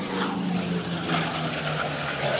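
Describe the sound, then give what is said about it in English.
A Corsair F4U propeller warplane with an R2800 engine flies overhead at the Dayton Vectren Air Show, a steady, loud engine roar with a low harmonic hum and broad rushing noise that holds constant throughout, with no voices. “Not sure if you heard that, folks, but that is a Corsair. F4U.”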